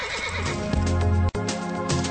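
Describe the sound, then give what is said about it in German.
A horse neighs loudly, a long quavering whinny that breaks off for an instant midway and then carries on, as its rider urges it to start moving; no voices present. “Also, liebes Pferd, bitte lauf jetzt los, ja?”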